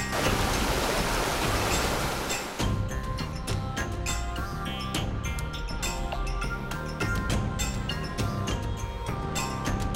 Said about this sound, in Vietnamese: Ven theo con đường núi thơ mộng, đến với bản Thái ở Tú Lệ, để hòa mình vào dòng suối sinh dưỡng mang nguồn năng lượng của núi rừng.